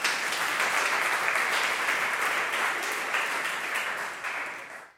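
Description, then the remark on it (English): A concert audience applauds, a steady wash of many hands clapping at an even loudness for about five seconds, then it thins out and stops abruptly. No voices stand out. “And that's from Jim Kane, and you're allowed to clap because it's a concert.”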